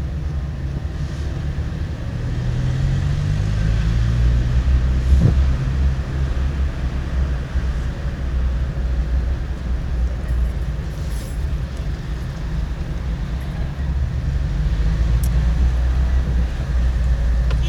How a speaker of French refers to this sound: tu as pu le constater, on manque d'électricité. Donc on a des moteurs un peu partout.